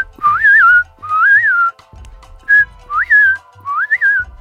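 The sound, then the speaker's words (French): A person whistles an imitation of blackbird song: five short, warbling phrases that swoop up and down in pitch, separated by brief pauses, clear and fairly loud with no talking. “Je chantais avec lui le chant du merle, et je ne m'en lassais pas.”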